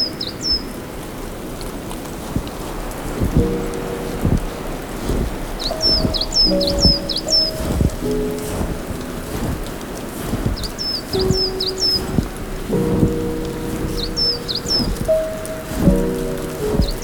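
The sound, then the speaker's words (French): Clumps of snow drop from tree branches with scattered soft thuds and patters, irregular, while small birds chirp in short bursts over a steady outdoor background. “Il y a toujours ces conglomérats de neige. tombent. Des branches.”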